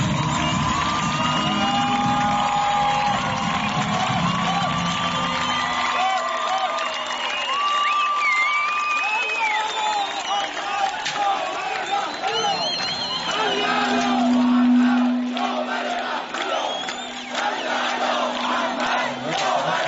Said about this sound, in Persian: خواهش میکنم به افتخار استاد علی اکبر رائفی پور تشویق مفصل